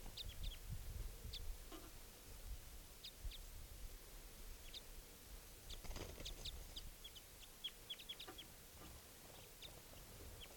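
wild bird calling

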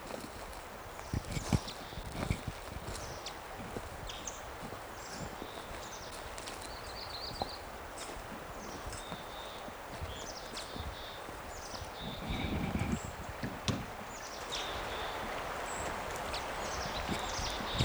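male bird call

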